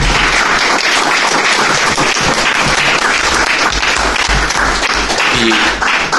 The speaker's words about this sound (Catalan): en tot cas, bueno, un aplaudiment per ells, perquè ho han explicat molt bé.